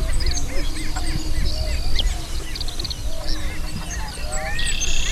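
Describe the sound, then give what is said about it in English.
Prairie chicken calls ring out amid a busy outdoor chorus of other birds at the Buena Vista Wildlife Area on a misty early morning, with repeated hooting and cackling notes over a steady low rumble of wind. “You hear a prairie chicken?”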